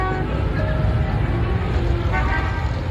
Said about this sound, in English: In a normal day, you hear cars more than anything else, and then you hear horns and brakes and motorbikes. And people are shouting sometimes.